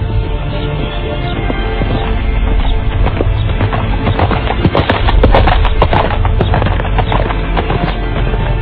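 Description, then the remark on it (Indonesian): Hooves of a ridden horse clip-clop in a steady, busy rhythm, the sharp knocks loud over a low rumbling background, with no voices present. “Tiba-tiba, dia melihat seorang penunggang kuda yang lain.”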